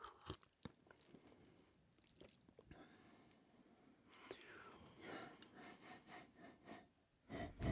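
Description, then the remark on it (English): Close-miked breathy exhales through the nose while tasting coffee, a few soft puffs in a loose rhythm, mixed with quiet mouth and lip sounds. “Yeah, breathe out my nose into the microphone.”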